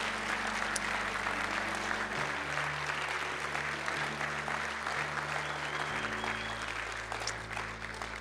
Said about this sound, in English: And I want to thank you, every one of you men, for allowing us to honor the women of God that are in this room. Would you guys give a big round of applause for all these women of God that are here today?